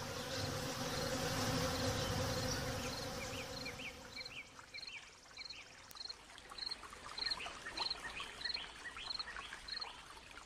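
wasps buzzing

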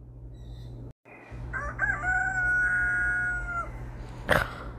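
rooster crowing

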